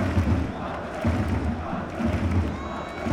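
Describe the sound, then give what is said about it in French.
A stadium crowd roars with shouting and cheering, a dense, loud wall of voices that swells in rhythmic surges roughly once a second, like a chant. “C'est le seul lieu aujourd'hui où je peux hurler de toutes mes forces sur quelque chose.”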